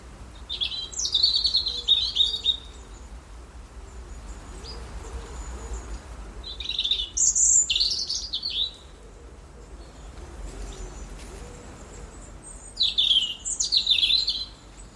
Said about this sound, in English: It's always a delight that blackbirds and robins are with us throughout the seasons, friends that are always there on my return. The autumn song battles of robins.